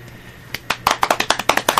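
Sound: hand clapping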